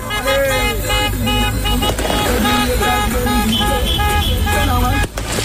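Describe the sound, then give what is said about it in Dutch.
Loud, dense street celebration by football supporters in Morocco, with many car horns blaring and overlapping continuously, mixed with crowd noise and engine rumble, sustained without pause. “Supporters gingen in Marokko meteen luid toeterend de straat op.”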